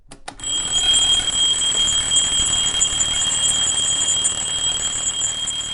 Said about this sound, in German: Ob man es schafft, diese Vorfreude zu erzeugen, wenn der Wecker morgens klingelt und uns viel zu früh aus dem Bett wirft?